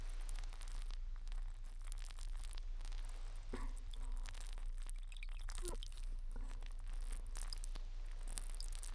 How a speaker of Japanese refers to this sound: ではお耳に水が入らないよう洗い流しますね。このように濡らしたタオルで拭うように。